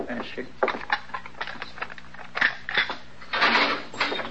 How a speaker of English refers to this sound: unlock the door.